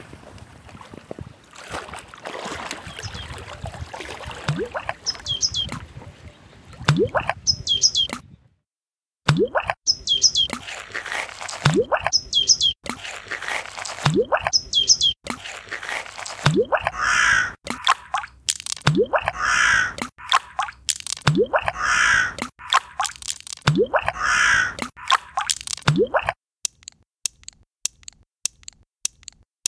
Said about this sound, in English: Ambience of Danube Island. Ice skating. The Danubian wetlands.